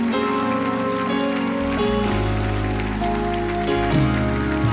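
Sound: audience clapping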